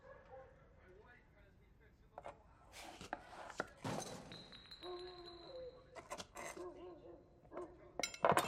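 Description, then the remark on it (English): A sharp knife slices through a beefsteak tomato onto a wooden chopping board in a suburban kitchen in Minneapolis, with a few irregular thuds and scrapes, accompanied by light clinks of glass and kitchenware ringing briefly. “She slices a beefsteak tomato with a sharp knife.”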